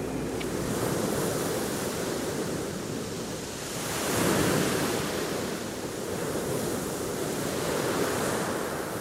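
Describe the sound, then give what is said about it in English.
Steady wash of surf on a beach with wind buffeting the microphone, a broad continuous roar that swells around the middle as a wave breaks, then settles back. No voices. “So we're here on the beach where a shop is selling different sorts of things.”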